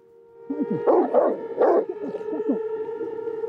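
A dog barks at the door three or four times in quick, loud bursts, then lets out lower whining yelps over a steady background hum; no one speaks.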